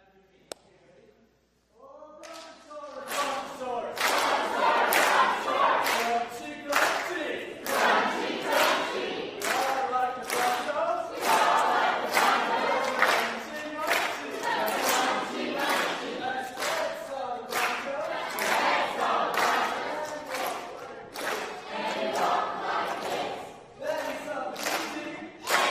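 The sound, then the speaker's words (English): The green team erupts into loud, sustained cheering and yelling after a brief quiet start, competing for 300 points, with shouts, whoops and scattered clapping or thumps continuing energetically for over twenty seconds. “Give it your best cheer for 300 points.”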